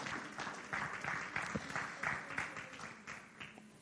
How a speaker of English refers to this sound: Somebody clap your hands and have your seat.